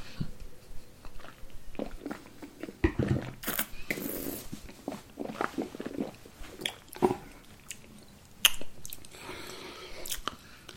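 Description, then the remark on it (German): Wet mouth noises: wine swished around the mouth with sloshing, smacking sounds over several seconds, then a swallow. Nobody speaks. “Also einen ordentlichen Schluck länger spülen und dann runterschlucken.”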